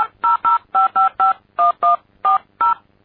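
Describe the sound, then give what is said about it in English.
A touch-tone phone number being dialed: ten short, evenly paced dual-tone beeps in quick succession, clear, with no talking. “And, of course, you know, anybody with good ears knew what that number was.”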